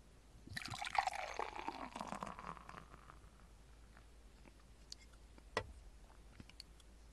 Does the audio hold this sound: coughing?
no